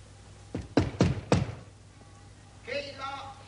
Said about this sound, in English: Therefore we'll knock.